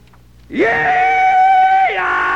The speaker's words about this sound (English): Yeah! Don't let me startle you. I'm just doing the rebel yell here to kind of kick things off.